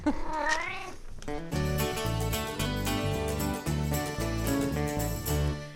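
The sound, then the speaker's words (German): A single drawn-out cat meow rises and falls for about a second, clear, then bright, steady music starts and plays on without a break. “Dann jetzt ein großes Miau in die Runde.”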